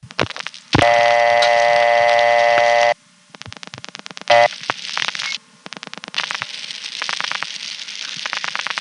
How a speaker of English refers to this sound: Here's calling it at a time when there are no tones, but there's an unidentified clicking on the line.